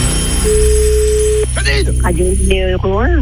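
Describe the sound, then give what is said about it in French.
A telephone rings once as a steady electronic tone lasting about a second during a Radio numéro 1 cash phone game, then an expressive voice cuts in over a constant background bed. “Dernière sonnerie”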